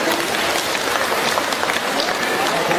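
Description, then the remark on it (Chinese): Sustained audience applause thanking Lu Junhong, a dense and steady wash of many hands clapping at fairly high volume for the full few seconds, with no break or clear individual claps standing out. “让我们用掌声感谢慈悲的卢军宏台长。”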